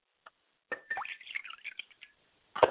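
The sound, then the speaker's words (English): Liquid is poured out as a libation to an African god and splashes in a quiet, uneven stream of plops and gurgles, with a brief drip before it starts and one last splatter at the end. “I pour libations to Oromola, who is the African god.”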